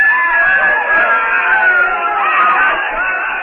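woman screaming

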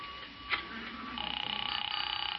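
telephone being dialed

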